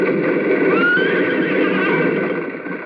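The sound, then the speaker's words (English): A horse whinnies loudly, a sustained, quavering neigh that carries through nearly three seconds with no voices over it, as it throws its rider Cube to the ground while galloping toward a bridge in a Roy Rogers story. “Cube is thrown to the ground by his horse.”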